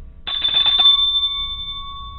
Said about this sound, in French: Le téléphone.